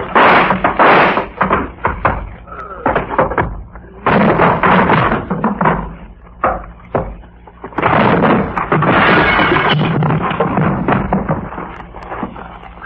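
door slamming

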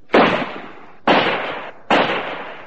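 gunshot

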